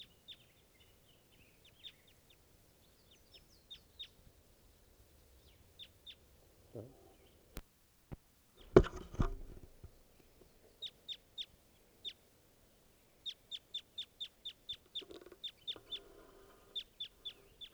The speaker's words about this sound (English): Stop. Here's a wild bird.